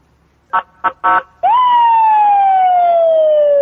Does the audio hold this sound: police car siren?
yes